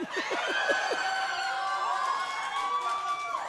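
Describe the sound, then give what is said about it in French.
An audience applauds steadily, a dense wash of clapping mixed with cheers and whoops, loud and continuous for the whole moment without easing off. “Pourquoi vous applaudissez?”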